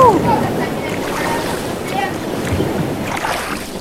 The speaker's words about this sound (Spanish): Cuando tengan un barco, un bote, y tengan un remo, cuando estén en el océano profundo o en medio así, si pulsan la T van a empezar a remar. Escuchen. Vamos remando.